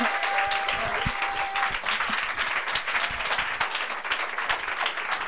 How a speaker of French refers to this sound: Et voilà, vous êtes tous très grands. Et on peut les applaudir aussi, tous ceux qui sont là.